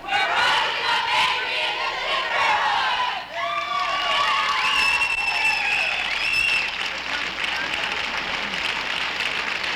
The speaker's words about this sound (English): The doctor is joining in the applause.